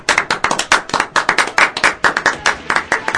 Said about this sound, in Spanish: ¡Genio! Aplausos, aplausos.